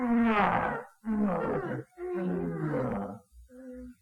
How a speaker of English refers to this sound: David heard that lion roaring. He was very much afraid. That lion had big teeth.